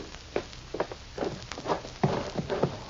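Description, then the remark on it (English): Horse hooves clip-clop at a steady walking pace, a dozen or so hollow knocks that grow slightly busier toward the end, moderately quiet, with no voices. “All right, boys, let's get on these horses and start for Painted Valley.”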